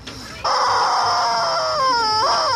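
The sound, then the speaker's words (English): A rubber chicken squeeze toy lets out a long, loud, shrill scream with a reedy, wavering pitch as squeezed air escapes through a reed in its mouth, held steadily for a couple of seconds before bending and trailing off. “So there's like a weird reed thing in its mouth that converts the outgoing air to sound like that horrible sound you heard.”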